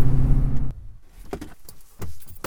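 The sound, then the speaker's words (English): A car driving on a snowy county road through trees: its deep, steady road rumble heard from inside the cabin cuts off abruptly, giving way to quieter clicks, rattles and a brief mechanical whir, with no one talking. “We're on like a county road, headed up through a bunch of trees. The roads aren't great, just snowed, and sometimes it'll open up into a field, but mostly it's those juniper trees, maybe a few aspens here and there.”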